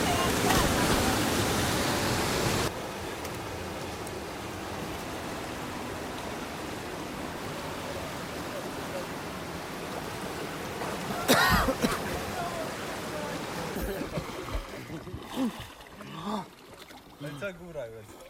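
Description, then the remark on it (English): Waves splash and rush in a steady wash of water noise, loudest in the opening seconds, with one sharp surge midway and muffled voices faintly underneath. “When waves hit you in the face, it's a little fun, a little adrenaline.”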